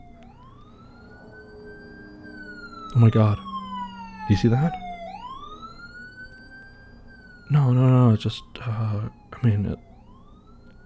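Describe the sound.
A police car siren wails steadily throughout, its pitch sweeping slowly up and down, while people exclaim and talk briefly over it.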